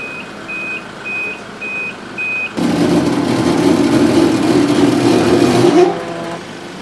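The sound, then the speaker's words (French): Five evenly spaced, high-pitched reversing beeps from a police-called tow truck coming to remove a car, then the beeping stops as a loud, rumbling heavy engine takes over for a few seconds before easing off. “Une fois que la voiture sera enlevée, là on est en train d'attendre la fourrière.”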